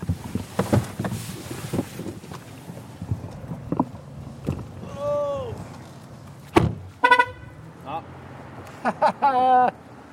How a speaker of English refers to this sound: That beep means that Estead forgot the keys in the car.